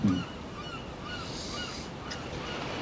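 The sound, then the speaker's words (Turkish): Several gulls call out over a steady wash of wind and surf, their cries coming and going while the broad rushing noise continues throughout. “Martılar, dalgalar, bir rüzgar çıngırağı.”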